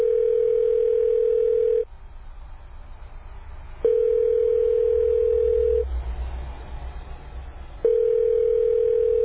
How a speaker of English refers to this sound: Junaid dials Nadim's number and he answers on the third ring.